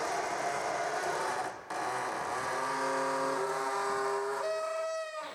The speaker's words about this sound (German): Hier ist ein Schlüssel drin. Ich schätze, dass man dort vorne die Tür damit öffnen kann. Probieren wir es. Los geht's. Sie nahmen den Schlüssel aus der Schatulle und öffneten die Tür.